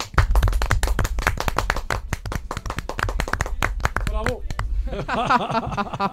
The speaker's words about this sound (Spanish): El aplauso de hoy se lo vamos a dar a este a Vítor.